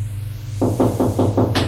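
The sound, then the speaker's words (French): Five evenly spaced knocks on a hotel bedroom door, firm, over a low steady hum, followed by a brief brighter sound at the end. No one speaks. “Un quart d'heure plus tard, on frappe à la porte de la chambre.”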